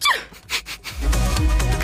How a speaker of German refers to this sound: Was gibt's noch so? Es gibt noch so die Meerschweinchen, die so mega hoch niesen.